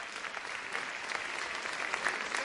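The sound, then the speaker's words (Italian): An audience claps steadily for a couple of seconds, a dense crackle of many hands at an even, moderately loud level, with no voices. “Va a Corleone veramente un applauso.”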